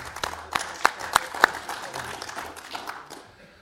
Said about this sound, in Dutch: Nee, eigenlijk moet ik nu ingrijpen, hè? Want ja. Het is niet gebruikelijk dat de publieke tribune applaudisseert.